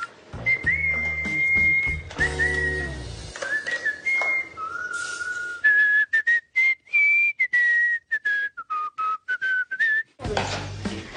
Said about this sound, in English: Was that you whistling? That was me. Was I whistling? Yes. What were you whistling about? I whistle when I'm happy, so I must be in a good mood.